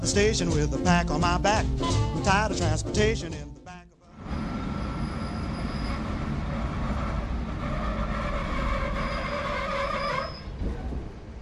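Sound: train running on rails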